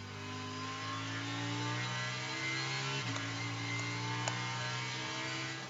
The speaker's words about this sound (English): So back underway with the engine sounds from around the track at Lime Rock Park, Connecticut. 1.5 miles, and it's an all skate for the next 15 and a half minutes or thereabouts.